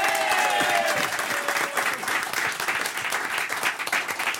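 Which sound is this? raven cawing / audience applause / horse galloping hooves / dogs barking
audience applause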